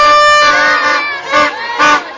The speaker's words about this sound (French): Nous sommes sur le boulevard Joseph Kabila à Kindu. Plusieurs familles célèbrent la réussite de leurs enfants par des cris, des sifflets, de musique accompagnée des danses de tout genre sur la voie publique